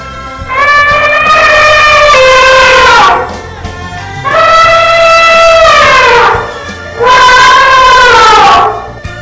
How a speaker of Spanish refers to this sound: El elefante.